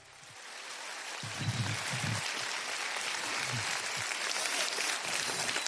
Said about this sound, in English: He's a great preacher. He's a great leader. And we need to give him a round of applause when he comes out to preach right now. Will you do that?